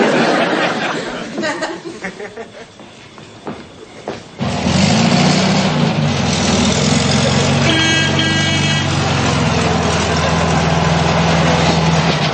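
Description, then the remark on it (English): A son's car pulls up and its engine settles into a steady, loud idle, a low continuous rumble that persists after a brief patch of quieter background noise with faint voices. “Well, if it isn't my hard-working son and his well-deserved car.”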